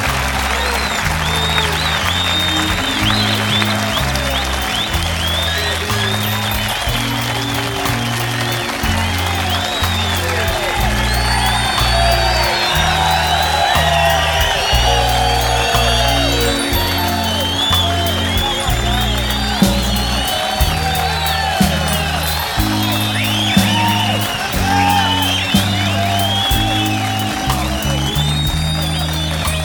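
A crowd at San Quentin applauds and cheers loudly and steadily for a visiting performer and his band for the full half minute, with whistles and shouts rising through the clapping while a band's bass-heavy music pulses underneath.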